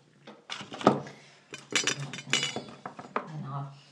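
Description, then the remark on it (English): Pet food dishes clink and clatter in a quick, uneven series of bright knocks as they are taken away, with a person talking over the sounds. “When I taken their food, their dishes away.”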